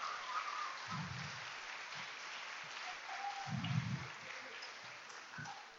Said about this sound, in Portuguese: Homens, vamos aplaudir as mulheres aí, né?